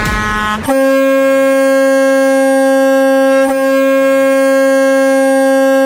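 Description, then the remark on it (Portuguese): A loud, blaring air horn holds one steady, brassy note for about five seconds, with a brief stutter near the middle. A shorter, different horn tone sounds just before it. No one speaks. “maiores, ao top de 3 buzinaços.”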